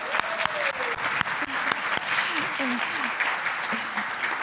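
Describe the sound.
Sustained applause from a crowd, a dense, steady patter of clapping with a few sharper claps standing out, and some cheering voices rising and falling underneath.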